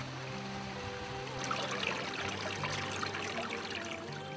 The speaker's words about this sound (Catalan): la ruta de la capçalera del riu Brugent, que és el que tenim aquí al darrere